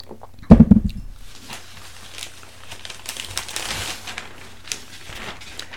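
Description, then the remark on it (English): Someone takes a sip of coffee: a dull thump of the cup being handled, then soft rustling, faint slurping and small clicks, with no talking. “Now I'll pause for just a second and have a sip of coffee.”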